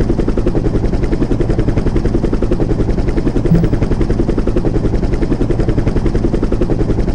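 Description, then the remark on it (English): A helicopter roars steadily, its rotor blades thumping in a fast, unbroken chop for several seconds with no voices over it. “They told me not to fly the chopper and drink the Chinako, but I'm only going to drink a little bit, so it won't be that bad.”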